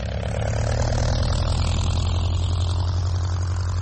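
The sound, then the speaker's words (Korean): The propeller engine of Amelia Earhart's first airplane, a secondhand yellow two-seat twin-propeller Kinner Airster she named Canary, drones steadily and loudly throughout, a deep throbbing hum with a rough, buzzing hiss over it and no voices. “두 사람이 탈 수 있는 노란색 쌍발 프로필러기인데 그녀는 그 항공기의 이름을 캐너리라고 바꾸었습니다.”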